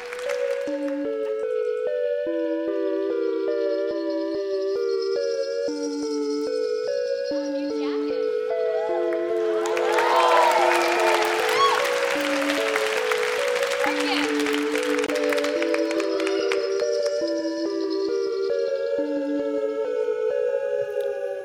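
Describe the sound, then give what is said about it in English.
A sellout live audience at the Brooklyn Academy of Music bursts into cheering and applause for about six seconds midway, a dense roar rising over a steady, plucked musical theme that plays from start to finish. “we have saved you the very best seat in the house before a sellout crowd of snappers at the Brooklyn Academy of Music.”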